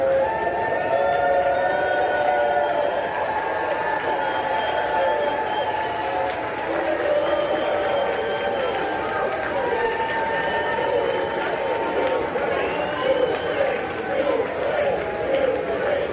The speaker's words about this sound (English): Listen to the House chanting and cheering because they passed the Ukraine money, clip one.